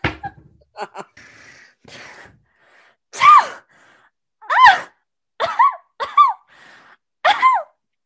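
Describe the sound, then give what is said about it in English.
A run of about five loud sneezes into a face mask, each a sharp breathy burst with a voiced tail, separated by short gasping inhales and quiet pauses. “Oh, I just sneezed in my mask and now it's all over me.”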